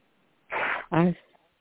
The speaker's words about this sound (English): I need to blow my nose.